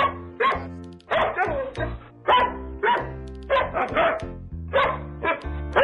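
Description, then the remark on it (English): A rapid string of loud dog barks arranged in a bouncy, tune-like rhythm, over sustained low musical tones. “There was an athlete, had a dog, and Mike Vick was his name.”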